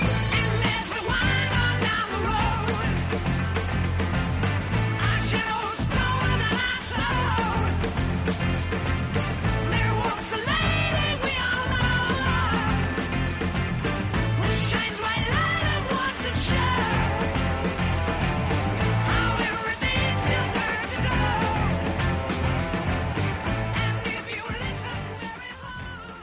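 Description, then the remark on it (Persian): Loud, driving hard rock plays nonstop at a raised tempo, the third section of a song that has shifted from a classical style into hard rock, with heavy drums and distorted guitars filling the mix while a high, strained falsetto voice wails and shrieks over the band. “تمپو دیگه رفته بالا. موزیک از اون حالت کلاسیک خودش اومده بیرون و شده هارد راک.”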